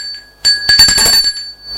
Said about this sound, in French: On a sonné à la porte du portail.